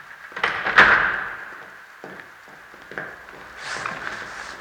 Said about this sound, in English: Close the goddamn door